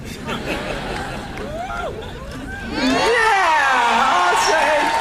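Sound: audience cheering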